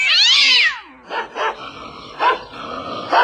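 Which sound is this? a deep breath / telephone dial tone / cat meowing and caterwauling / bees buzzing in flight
cat meowing and caterwauling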